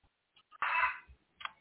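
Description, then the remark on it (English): The speaker's own chicken clucks: a couple of soft short clucks, then a louder drawn-out squawk and one more brief cluck, with no one talking. “There go my chicken again”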